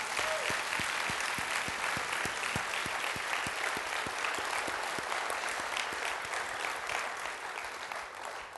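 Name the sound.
audience hand clapping applause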